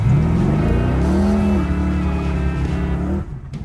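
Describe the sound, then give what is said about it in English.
A car engine revs loudly, its pitch climbing quickly and then holding at a steady rumbling roar for several seconds before easing off near the end. “Sunday, May 18th, it's the Cruisin' for Camp Courageous car show, and the whole camp is revving up for a day of family fun.”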